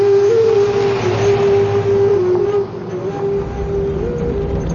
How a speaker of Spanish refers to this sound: El presentador circula con su coche por un polvoriento camino, con pequeños árboles a los lados.